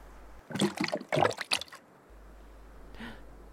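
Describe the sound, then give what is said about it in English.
Water sloshes and splashes in two quick bursts as a swimmer goes under the water, then settles into a soft, steady background of moving water with a faint trickle toward the end. “Just keep swimming in here on the spot, and I'm just gonna go under the water a second.”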